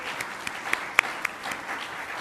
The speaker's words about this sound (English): So another round of applause for them.